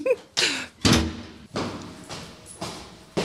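A door being opened, with a series of loud knocks and rattling thuds spread over a few seconds and no voices.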